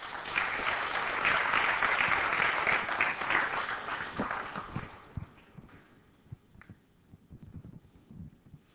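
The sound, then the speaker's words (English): A crowd bursts into a dense, steady round of applause for a speaker being introduced, holding for several seconds, then thinning out into scattered, fading claps while a few voices murmur underneath. “So if we could get a round of applause”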